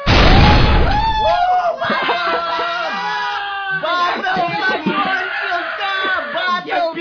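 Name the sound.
explosion sound effect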